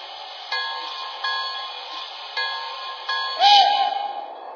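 A passenger train riding the rails, with a steady muffled rumble broken by regular clacks every second or so, then a brief louder rush of noise near the end.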